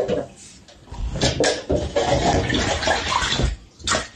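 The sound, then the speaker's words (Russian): Brown water gushes steadily from a tap in the Kirzavod microdistrict of Yakutsk, a continuous splashing rush with a few clunks and surges, while voices murmur underneath. “Также действуют жители Якутска, где в микрорайоне Кирзавод из кранов течет коричневая вода.”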